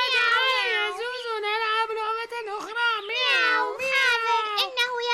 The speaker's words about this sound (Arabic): وأين هو قطقوط؟ قطقوط في البيت. مياو مياو، لا ليس في البيت، ربما هو نام.